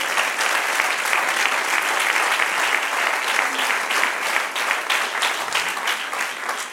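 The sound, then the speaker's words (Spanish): An audience applauds the Lord steadily, dense overlapping claps sustained at a loud, even level for several seconds, with no speech over it. “Denle un aplauso al Señor si puede.”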